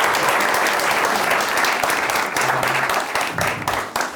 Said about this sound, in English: So, I'm going to bring Tommy Caldwell up on stage. Everyone can give him a big round of applause.